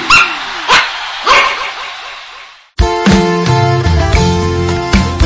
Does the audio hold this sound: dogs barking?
yes